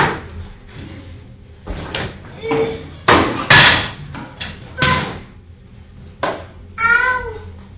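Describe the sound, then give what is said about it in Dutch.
A child rattles and pushes toy carts, which clatter and rattle in a series of irregular bangs and rolling bursts, with a few short high squeaks from the cart wheels mixed in; no one speaks. “dan verstaan we niks meer als je met die karren gaat doen.”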